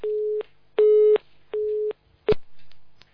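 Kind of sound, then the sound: signal or alarm, busy tone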